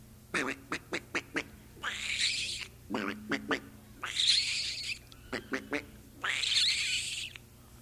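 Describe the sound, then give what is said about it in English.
A gray squirrel in inland Florida calls in three cycles, each a rapid run of sharp chucking barks followed by a long, raspy, wheezing moan, clear with no one talking. “Now further inland and all through Florida is the gray squirrel.”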